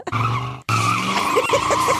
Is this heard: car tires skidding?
yes